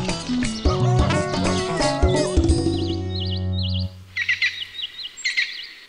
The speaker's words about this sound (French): L'animal qu'on entend le plus facilement malgré sa taille, c'est le pivert. Le pivert frappe sur les troncs au rythme de 20 coups par seconde.